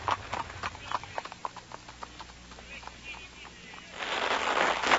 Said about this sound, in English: We drove off as Johann started the horses at a quick pace. In a short while, we had cleared the town and were driving in the German countryside.